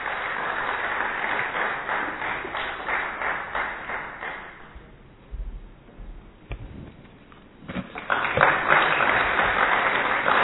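Audience applause fills the room, a dense patter of many hands clapping that fades briefly midway, then swells back up loudly toward the end.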